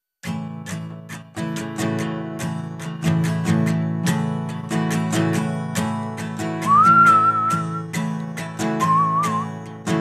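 A song with a steady, punchy beat plays, and partway through a clear whistled melody rises above the music in two short phrases, bright and prominent in the mix.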